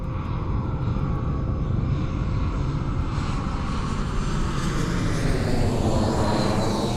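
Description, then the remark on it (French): A loud, steady airplane engine roar fills the scene as a passenger plane takes off at 11:45 pm on a flight to France, its whining pitch climbing toward the end. No voices are heard. “Elles rentrèrent dans l'avion à 22h30 et décollèrent à 23h45.”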